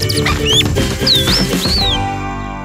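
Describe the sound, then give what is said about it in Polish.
A sparrow chirps a few times, each note a quick high upward or downward sweep, heard over a dense, steady low-pitched background that stays loud throughout. “Tak jak słychać po pierwszych ćwierknięciach, w dzisiejszym odcinku przygód kilka pewnego wróbla.”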